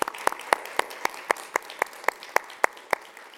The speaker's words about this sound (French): Vraiment, on peut applaudir, vraiment.